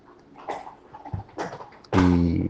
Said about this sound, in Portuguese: Meus cachorros tá roendo os ossos que eu trouxe, ó, pra vocês terem uma ideia. Eu trouxe os ossos das coisas que sobraram.